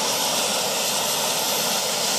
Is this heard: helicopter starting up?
yes